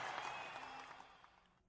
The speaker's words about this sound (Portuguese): Do lado de cá, calma aí, vai chegar o aplauso.